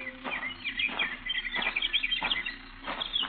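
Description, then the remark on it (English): Several birds chirp and tweet busily at once, a steady chorus of high, quick calls with a few brief swells, and no one speaking. “See you birds later.”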